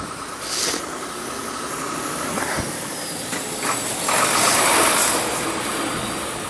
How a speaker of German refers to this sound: Oh, da kommt wieder ein LKW.